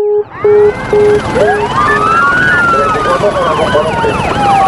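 Sirens of five police cars wail at once, loud, with a rapid yelp starting first and then overlapping rising-and-falling wails layering into a dense chorus as the cars turn into a street and arrive at a house.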